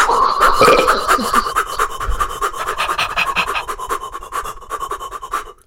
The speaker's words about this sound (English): Now, after your breathing, quick breathing, I want you to reverse your head roll and breathe again, but this time twice as fast. So start your head roll. All right. Deep cathedral-sized breath in. And out.